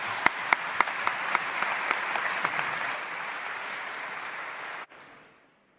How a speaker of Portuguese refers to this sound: E já agora uma observação, aqui nesta zona também não se costuma bater palmas, mas foi uma exceção porque acho que todos gostamos bastante deste discurso.